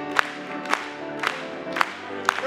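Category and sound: crowd, audience clapping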